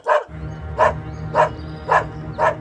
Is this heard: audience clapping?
no